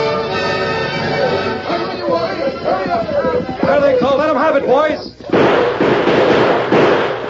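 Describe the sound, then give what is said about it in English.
Several sharp gunshots crack out amid loud, busy music and shouting voices, followed after a brief dip by a dense, roaring wash of noise that carries on to the end. “Hold your fire. They're out of range.”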